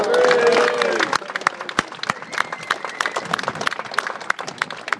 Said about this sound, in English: Many of you have now made it down to here. I think UCU should give itself a big round of applause.